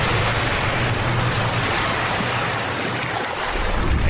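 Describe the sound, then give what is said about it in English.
Loud churning of swimming pool water as people jump in for astronaut training, a dense continuous wash of splashing and sloshing that holds steady for several seconds without any voices. “Astronaut training starts in a swimming pool? That's right. Everyone in.”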